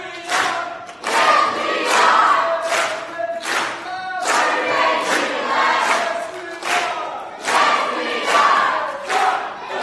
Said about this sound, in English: join in with the green team as they do their final cheer. Go ahead, green, and blue will join you as you do it.